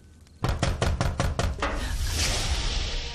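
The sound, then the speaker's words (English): Loud, heavy pounding on a door, about seven quick blows in a rapid burst, followed by a steady rush of background noise with no voices. “They're knocking on the door so hard as if we owe them something.”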